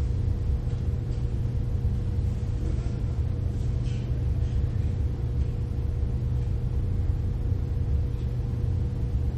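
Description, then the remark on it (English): A steady, unbroken hum of fans, with a low droning rumble and a faint sustained tone over a soft airy hiss. It stays even in level the whole time, with no voices. “Notice the humming of the fans.”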